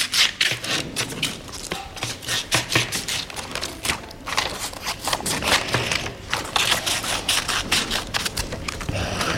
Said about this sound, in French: Je découpe des feuilles. La réponse, c'est un ciseau.